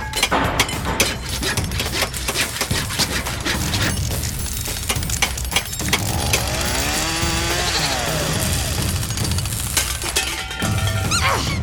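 tool, hammering

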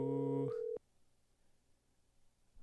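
signal or alarm, telephone busy signal

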